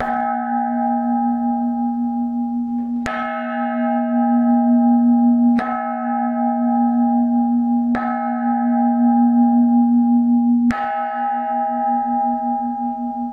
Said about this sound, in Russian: Мы можем в качестве образца предложить послушать удары в архаичный колокольчик XII века, который записан в одном из музеев. Ну, давайте послушаем.